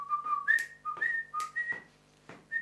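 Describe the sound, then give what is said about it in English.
A person whistles a bouncy, catchy song melody alone, short clear notes hopping between two pitches in a quick rhythm, fairly loud with small breathy bursts between phrases. “And this song has just got a catchy tune. And you can whistle at any time during the week. It goes like this, you'll know it.”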